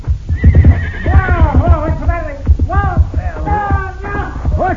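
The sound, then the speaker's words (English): A horse neighs and whinnies repeatedly in loud, wavering cries, over a steady rhythmic thudding that suggests galloping hooves. “Pancho, hit your horse with a slingshot, Bandito.”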